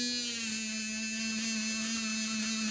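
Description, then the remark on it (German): An electric toothbrush buzzes steadily and continuously, a constant droning hum with no pauses and no voices. “In jedem Alltagsgerät steckt Mechatronik, sei es in der elektrischen Zahnbürste, die mich warnt, zu fest anzudrücken oder mir per App sagt, ob ich gut oder schlecht geputzt habe.”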